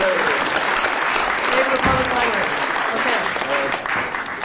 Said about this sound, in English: So I think we need a big round of applause for librarians and librarians.